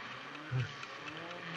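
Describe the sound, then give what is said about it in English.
A steady, buzzing drone of engines from cars surrounding a house outside at midnight, humming continuously, with a brief louder low rumble swelling near the middle. No one speaks. “Sounds like car engines.”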